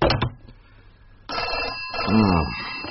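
A telephone bell rings loudly and insistently, a bright metallic trill that starts partway through after a short noisy burst and a quiet pause, continuing to the end.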